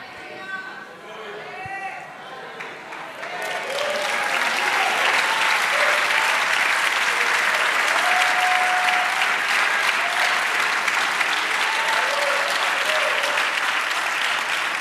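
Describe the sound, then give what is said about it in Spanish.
An audience at a sermon breaks into loud, sustained applause after a few seconds of a voice speaking, the dense clapping continuing steadily to the end with voices calling out over it. “Pero aplaudir aquí, amén, es cuando usted salga por ahí.”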